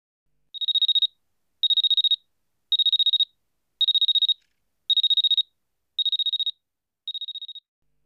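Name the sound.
alarm clock ringing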